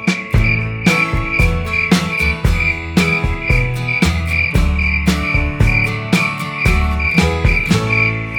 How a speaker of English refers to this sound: Wave your wings, fly over chirping crickets, say hi to the cricket. Hello, cricket.